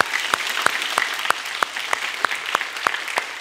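A crowd applauds steadily, a dense wash of clapping with a few sharper claps standing out at an even, regular pace, fairly close and moderately loud throughout.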